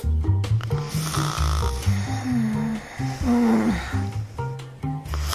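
A man snores loudly in a sleeping rhythm, each rough, rattling breath drawn in and pushed out in long, close, heavy cycles with no talking.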